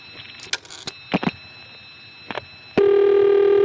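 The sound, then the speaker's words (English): A long-distance telephone line from Hague, Virginia crackles with several irregular clicking pulses and bursts of noise, with no multi-frequency tones, then a loud steady tone comes on and holds to the end. No one speaks. “On this, you don't hear multi-frequency tones, just more pulsing noises than in the last example.”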